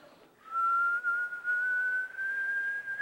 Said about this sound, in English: And I shove the nozzle in and I clip it full blast. And I hear this sound that was like a tea kettle.